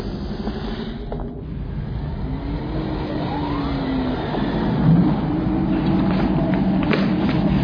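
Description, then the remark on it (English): A spaceship engine, fired on orders from the bridge to jettison the ship, rumbles steadily, then builds as rising whining tones sweep upward and the roar grows louder and denser toward the end, with no voices. “Who fired the engine?”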